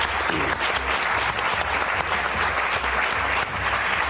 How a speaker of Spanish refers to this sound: Gracias, sí, por venir. Un aplauso.